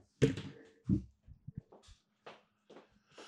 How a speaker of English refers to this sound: Oh, wait. Hold on. The door's knocking. Hold on.